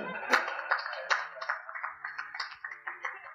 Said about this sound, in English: You can clap for me.